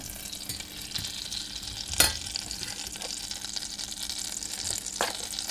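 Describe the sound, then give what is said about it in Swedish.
Continuous sizzling and scraping as butter is melted and whisked together with flour in a saucepan to make a sauce, with a steady stirring rhythm and one brief louder clink near the middle; no one speaks. “Smält smör i en kastrull och vispa ihop med lite vetemjöl.”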